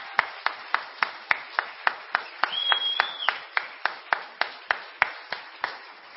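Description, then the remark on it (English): Steady, evenly timed audience applause for all of the evening's performers, about three sharp claps per second, over a soft wash of background noise. A brief high whistle sounds midway through; nobody speaks. “Can we have a round of applause for all of our performers this evening?”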